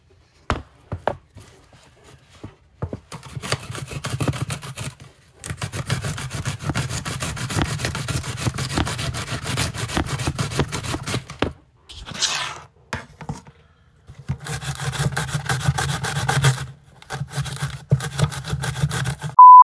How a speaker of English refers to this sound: That was me grating on the mandolin, like a grater. I put ginger on it.